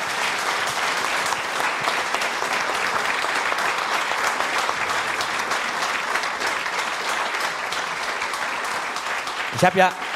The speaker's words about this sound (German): aber einen Applaus gibt es natürlich trotzdem.